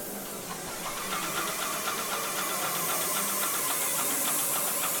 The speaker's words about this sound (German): Der Roboter überstreicht mit der sogenannten Airless-Technik sauber Amayas grüne Schmierereien an der Wand.